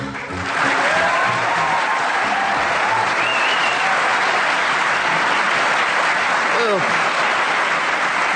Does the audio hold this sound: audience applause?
yes